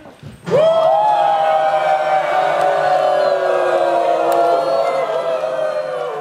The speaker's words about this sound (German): Jubeln Sie! Schwenken Sie! Jubeln Sie! Geben Sie alles!